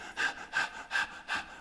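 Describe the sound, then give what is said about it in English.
Four quick, shallow breaths in a steady rapid rhythm, fairly soft, each a short airy puff with no talking around them; a person demonstrating the shallow, rapid breathing that comes with fear. “We find first and most in analyzing fear, changes in the circulation, the blood vessels contract, the heart beats violently, and the breathing becomes shallow and more rapid.”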